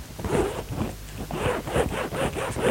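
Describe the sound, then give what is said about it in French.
A suitcase zipper is pulled open in a series of short, raspy strokes with brief pauses, a steady scratchy rasp and no voices, as a man in his car in Chamonix opens his suitcase to check that the books are inside. “Mais avant de sortir de la voiture, il ouvre sa valise pour voir si les livres y sont.”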